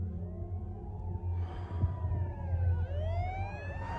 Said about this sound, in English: Behind him, the sheriff's cruiser speeds around a corner with its sirens blazing.